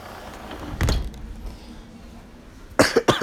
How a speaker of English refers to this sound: That's me coughing because I'm sick.